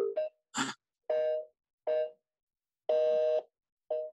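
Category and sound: signal or alarm, outgoing phone call ringing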